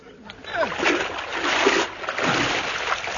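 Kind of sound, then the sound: sound effect, splashing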